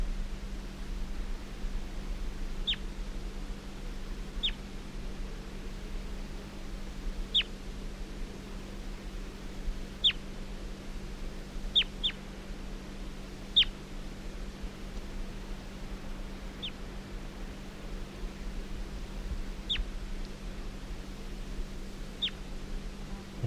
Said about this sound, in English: Recording bird 338 being handled.